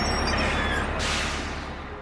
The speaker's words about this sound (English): Bus number 29 for New York City arriving now. A bus pulls up to Christie and Jefferson.